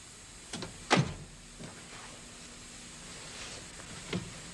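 A front door clicks and thuds as it's opened and shut, with a sharp knock-like impact near the start and a softer latch click a few seconds later, heard fairly close in a quiet room.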